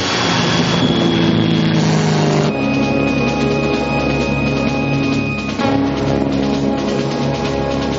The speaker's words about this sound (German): Die Flugzeuge versprühen ihr Gas und wie gefällt stürzen ganze Kompanien zu Boden. Jeder, über dessen Kopf die Flugzeuge hinwegdonnern.